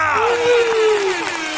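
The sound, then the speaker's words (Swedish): A short burst of applause and cheering from a crowd, played in a studio with a loud horn toot sliding downward in pitch across the middle, all lasting under two seconds. “Jag tycker vi kör som vanligt, en applåd och en tuta på det!”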